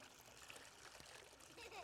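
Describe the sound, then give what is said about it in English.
Water pours steadily into a container and splashes over its edge, a continuous trickling, splattering wash heard fairly quietly, with faint voices murmuring in the background. “And it splashes over, too.”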